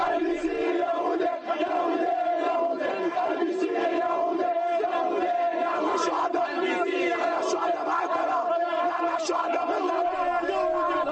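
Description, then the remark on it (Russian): A large crowd of protesters shouts and chants together in a steady, unbroken roar of many raised voices, loud, with no single speaker standing out, at a mass protest demonstration in front of the UN mission building in Beirut after the events in Qana. “После событий в Кане в Бейруте прошла массовая манифестация протеста перед зданием миссии ООН.”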